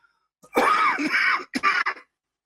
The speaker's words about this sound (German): Apropos Husten.